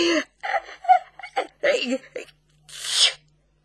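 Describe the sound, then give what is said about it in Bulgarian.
A voice acts out a man's sneeze: a series of halting, catching breaths and vocal sounds building up, then a single loud, hissing burst at the end, as he takes binoculars from his eyes and bends forward. “Кихна, както виждате.”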